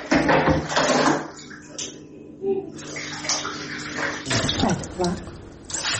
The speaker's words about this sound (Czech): Vode iz vodovoda nema, pa mora da je iz bidona sipa u veš mašinu. Pa možda jedan 15 dana kako su počele baš ovako paklene vrućine, ovako se snalazi.